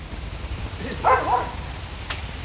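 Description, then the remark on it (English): A dog gives one short, high bark or yelp over a steady low outdoor rumble and wind noise, as a bunny runs away from the dog. “There's a bunny running away from a dog here.”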